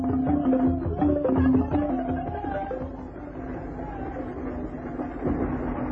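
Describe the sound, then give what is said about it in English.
A train speeds across the desert, rumbling steadily along the tracks, fairly loud, its dense mechanical roar holding throughout with faint rhythmic clatter and a tonal, droning hum over the top. “One day, while one of these porters was out with Grogan, acting as gunbearer, they saw a train speeding across the desert.”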